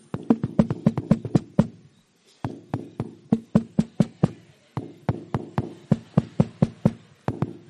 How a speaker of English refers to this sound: Tonight, I hear a knock.